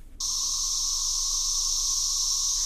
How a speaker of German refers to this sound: Das sind Zikaden, und zwar richtig viele Zikaden. Sie haben viele Jahre im Boden gelebt und kommen jetzt bald alle auf einmal nach oben.